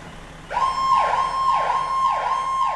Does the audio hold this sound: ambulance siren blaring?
yes